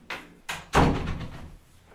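A green door in a distribution centre for products from Ireland swings shut with a solid thunk, preceded by a couple of lighter knocks or rattles, then a short reverberant decay. No one speaks.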